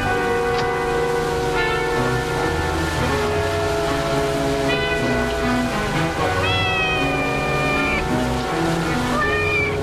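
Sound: cats meowing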